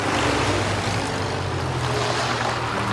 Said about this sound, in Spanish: Por la noche en el instituto, tres camiones militares llegan y los soldados ingresan en la fila al edificio.